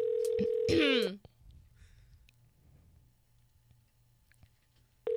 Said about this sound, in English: I just dialed your number. I know. I know that because my phone is ringing, you dumbass.